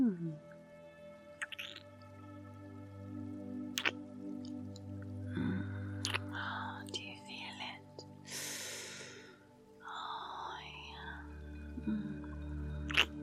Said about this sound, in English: Kissing you here. Down here.